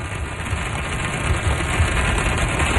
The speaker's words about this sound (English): We got pummeled by some rain. I think Adam actually has some audio. It sounded like a war zone.